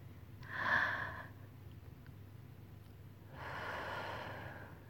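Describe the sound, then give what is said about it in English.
Two slow, deep breaths with no talking: a breathy inhale swells up and fades, then after a pause a longer, softer exhale follows, both airy and hushed over a low steady hum. “focus on your breathing. You can feel my chest rise against your back, right? As you breathe with me.”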